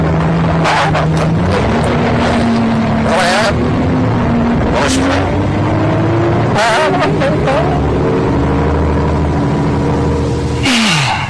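The engine of a number 54 bus rumbles loudly and rises in pitch as it pulls away, with rattling clunks and sharp hisses breaking through the steady drone.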